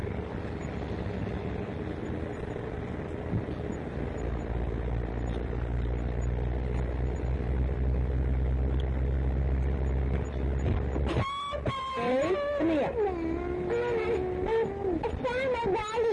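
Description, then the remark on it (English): A heavy truck's deep, steady engine rumble fills the first part, loud, then cuts off abruptly as voices take over. “What is it? What? A truck? Yeah.”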